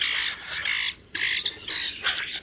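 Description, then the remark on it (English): Common grackle calls: harsh, raspy squawks and creaky notes in quick, overlapping bursts with a brief pause midway, fairly loud, with no talking. “The last birder to hear one in the wild said their call was like that of a common grackle, a bird in steep decline today.”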